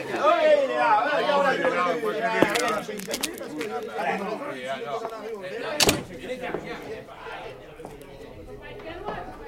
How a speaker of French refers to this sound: Tiens, une porte qui s'ouvre.